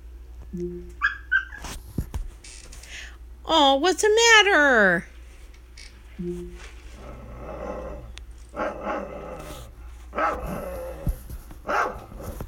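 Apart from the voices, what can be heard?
dog barking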